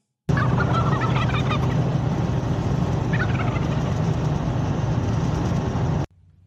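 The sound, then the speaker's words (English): A flock of turkeys gobbles together in a dense, continuous chorus, with bursts of higher warbling calls rising over a steady low rumble, loud throughout. “All right, it's Thanksgiving. Here come the birds, everybody.”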